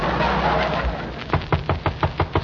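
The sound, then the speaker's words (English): A rapid series of about eight sharp knocks on a door, evenly spaced, follows a second of low, steady background noise. No one speaks. “Ma, unlatch the door and see who's there.”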